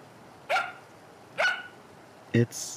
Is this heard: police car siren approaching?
no